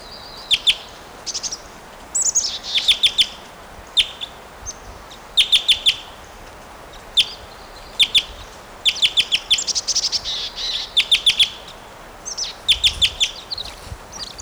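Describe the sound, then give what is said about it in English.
A bird flying up gives repeated bursts of sharp, high-pitched flight calls, short clusters of quick chirps spaced irregularly over a faint background hiss, with no talking. “He'll fly up and give flight calls, I'm sure.”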